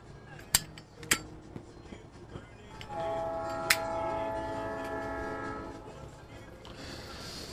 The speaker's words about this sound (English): Oh, there's a train. There's a train over to my west.